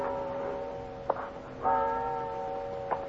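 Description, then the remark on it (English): The bells in the clock and bell tower of a large cathedral at one end of the Stubelplatz square in Hamburg chime, with three struck notes whose humming overtones linger and overlap in a sustained, resonant ring. The sound is steady and moderately loud, with no voices. “At one end of the square is a large cathedral with a clock and a bell tower.”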